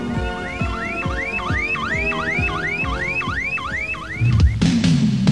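A car alarm whoops loudly in a fast, repeating rising sweep, about ten cycles in a row, then cuts off into a harsher burst of siren-like tones at the end.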